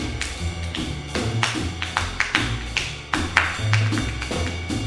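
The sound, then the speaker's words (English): A group of students claps together in a steady rhythm to feel the pulse of the music, sharp hand claps landing on the beat over a low, murmuring background with no clear talk. “To feel the pulse, students clap.”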